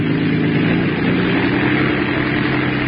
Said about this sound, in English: Give her another listen to her, will you? What do you think? Rev her up again. We'll listen once more.